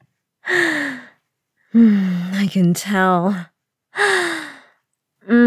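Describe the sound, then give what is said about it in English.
A series of short, breathy gasps with a voiced edge, each sliding down in pitch and coming in uneven bursts, with a brief spoken phrase mixed in among them. “Those shameful little gasps of yours are getting shorter.”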